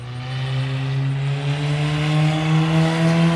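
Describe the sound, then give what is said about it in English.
A race car engine drones steadily and loudly as the car runs its final practice laps on the track at sunset, its pitch creeping slightly upward as it holds speed, with no voices over it. “Cole's finishing out his final set of laps”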